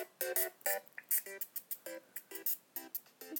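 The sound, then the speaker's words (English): A phone ringtone plays the regular Mario video game soundtrack, a quick run of short, bright electronic notes in a steady rhythm, heard alone at modest volume. “So my ringtone right now, before it was like the regular Mario soundtrack, like this one.”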